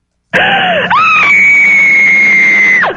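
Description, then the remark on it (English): A woman lets out a long, loud, piercing scream that starts abruptly, wavers briefly, then holds a sustained high pitch for about two seconds before cutting off with a downward drop. “He was sitting there waiting to fire the screaming lady, and I never said IRS.”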